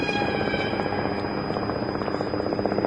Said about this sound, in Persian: هلیکوپتر آمریکایی بالای سر گروه چرخ میزنه. صدای هلیکوپتره.